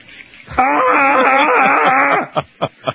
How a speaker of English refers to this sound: There was no pain. I screamed just for effect because that's what radio. You only have sound effects.